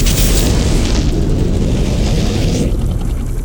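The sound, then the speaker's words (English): A water tank at a colony explodes: a loud, sustained roar for several seconds, a deep rumbling boom with crackling, hissing bursts layered on top before it begins to ease off. No one speaks. “Sounds like we just lost our water tank.”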